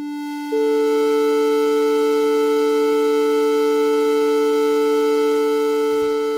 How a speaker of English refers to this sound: So remember, I had no overtones in each of those. Those are pure sine waves. But so now, here is our good fifth with some overtones in it.